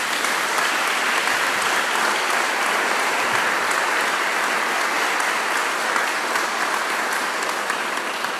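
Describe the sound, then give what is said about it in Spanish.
Sustained applause from a large crowd, given to the Lord, fills the whole stretch, a dense, steady wash of clapping at constant loudness with no clear pauses and no talking over it. “Damos un aplauso a Señor.”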